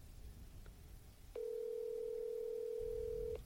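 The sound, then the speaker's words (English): A telephone dial tone sounds once, a steady loud hum holding for about two seconds over faint low background noise, then cutting off with nobody answering. No one speaks. “He's not picking up. We're trying to recontact with Chaplain McTurnan.”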